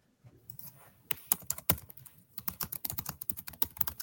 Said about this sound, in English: She's typing. So she's looking something. Yeah, I'm Googling. Well, I'm Googling.